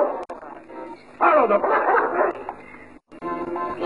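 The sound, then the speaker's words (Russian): Several dogs bark and yip excitedly as they are called to come, their overlapping calls swelling into a loud, dense burst midway, dropping out briefly, then starting up again. “Ну, идите же ко мне. Ну, быстро, быстро. Быстро, мои хорошие собачки.”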